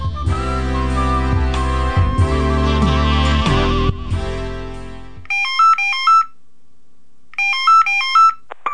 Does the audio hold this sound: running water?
no